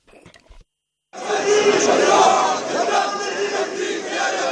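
crowd chanting at rally

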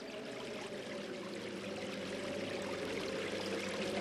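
flowing river water

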